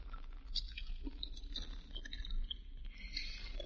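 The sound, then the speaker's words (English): Soft chewing of gum, with irregular wet smacks and small clicks repeating over a few seconds against a low, steady background hum; no one speaks. “Do you chew gum all the time?”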